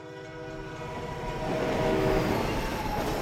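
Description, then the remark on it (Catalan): A train rumbles past behind a taxi stopped on a patch of waste ground, growing louder as it draws near, with steady sustained horn tones sounding over the rolling clatter of the wagons. No voices. “Un altre tren passa per darrere el taxi, aturat en un descampat.”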